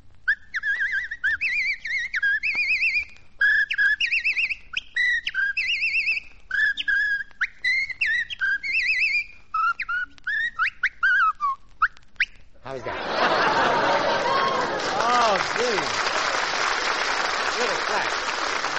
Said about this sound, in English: Oh, I whistle, too.